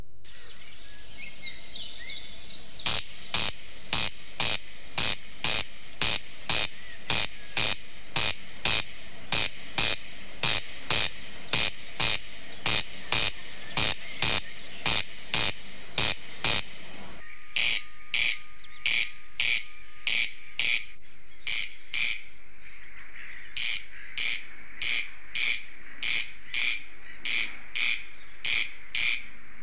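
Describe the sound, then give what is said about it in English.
A corncrake calls over and over, a loud, dry, rasping double crake repeated in a steady rhythm for half a minute, pausing briefly once or twice, with no talking. “If you don't know what the sound is, that's the sound of the corncrake.”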